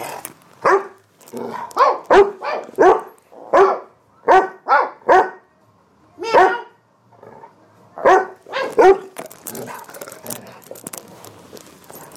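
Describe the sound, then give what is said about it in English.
A female dog barks repeatedly, a loud series of sharp, uneven barks over about nine seconds, with short pauses between bursts, then fading into faint background noise. “How are we going to make her bark?”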